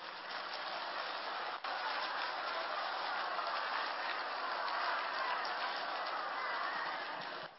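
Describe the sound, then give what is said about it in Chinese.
Sustained applause from a large crowd giving thanks to Guanyin Bodhisattva and Lu Junhong, a dense steady clatter of many hands clapping continuously for several seconds before tapering slightly at the end. “让我们再次以热烈的掌声感恩大慈大悲的观世音菩萨，感恩大慈大悲的卢军宏台长。”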